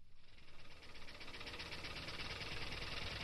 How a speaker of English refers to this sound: Those are the flapping metal wings of the Etomopter, a small bird-like drone which is being developed at the Georgia Institute of Technology.